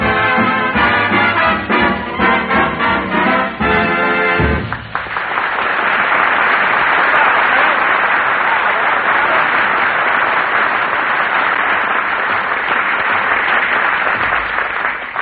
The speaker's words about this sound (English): Isn't Phil a ham? He even puts applause on the record.